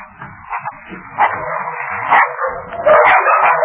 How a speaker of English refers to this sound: Before they arrived, the dogs renewed their attack